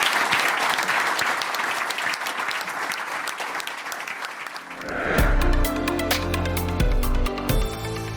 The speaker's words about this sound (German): Großen Applaus an unsere 10 Gesellschaftsvertreter für den tollen Austausch. Vielen Dank.